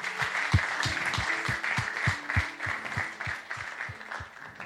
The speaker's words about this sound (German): Ja, gib mal einen Applaus für die Frauen Gottes.